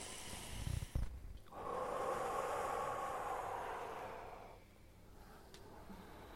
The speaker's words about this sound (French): Alors nous pouvons inviter une respiration volontaire, inspiration et expiration profonde.